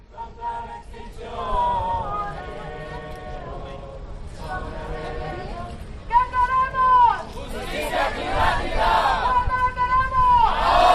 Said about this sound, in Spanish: hay muchos jóvenes, un grupo de unas 200-300 personas que corean cánticos como este.